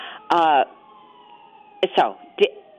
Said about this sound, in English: I live downtown and close to a fire station, so we've got little sirens in the background.